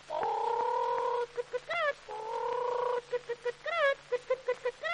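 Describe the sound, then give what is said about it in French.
A voice imitates a hen, drawing out two long nasal squawks, each followed by a quick run of short, rising clucks. Fairly loud and without words. “Là, une poule qui prend des œufs pour faire des omelettes au lard.”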